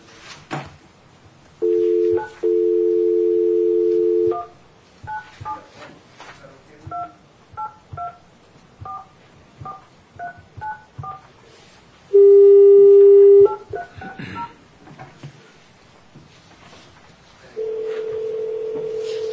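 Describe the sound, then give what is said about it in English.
A steady phone dial tone hums, then about a dozen quick keypad beeps are punched in a brisk, uneven rhythm, followed by another tone burst, more beeps and a sustained ringing tone at the end, as a call is placed from a Taney County Board of Equalization hearing. “We're going to go ahead and make a phone call to...”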